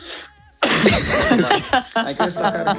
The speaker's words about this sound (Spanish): En varias ocasiones tuvo que interrumpir … la entrevista, estornudó